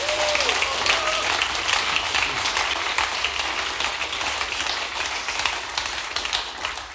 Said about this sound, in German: Geben wir doch mal einen Applaus für sie.